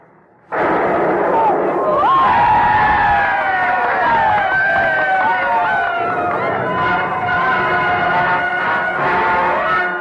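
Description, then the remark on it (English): In Charleston, as the first cannon shot is fired at Fort Sumter, a crowd of ladies waving handkerchiefs from balconies and terraces bursts into loud, sustained cheering after a moment of quiet: a dense roar of many voices with high whoops and shouts that holds steady to the end. “Beginning of a war that started with the cheers of ladies waving handkerchiefs from balconies and terraces.”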